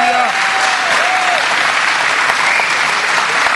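Loud, sustained audience applause for a speaker after his talk, a dense steady wash of many hands clapping at once, with a few faint whistles rising briefly above it.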